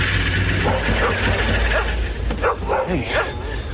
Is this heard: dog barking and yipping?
yes